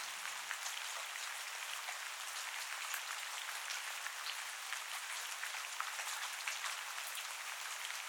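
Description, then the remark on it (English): Steady rain falls continuously, a dense hiss of countless drops with scattered brighter patters, even in loudness throughout, with no voices. “Feel the stress disappearing from your body with every nourishing drop of rain.”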